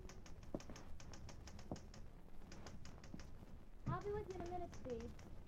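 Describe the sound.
Quick, steady keystroke clicks of someone typing a story rattle along for a few seconds, pause briefly, then continue as a voice starts speaking over the last taps.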